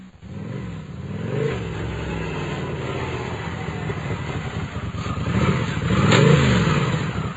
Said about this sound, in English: On that same Monday in May, at approximately 7:30 in the evening, there came the sound of a motorcycle pulling up outside Horatio Salazar's house.